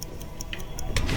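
A clock ticks steadily and crisply, about five sharp clicks per second, over a low background rumble that swells slightly toward the end.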